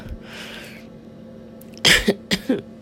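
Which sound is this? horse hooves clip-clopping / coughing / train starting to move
coughing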